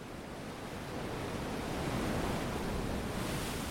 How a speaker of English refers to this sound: It is a poor substitute, we've learned, for the real thing. Ocean waves.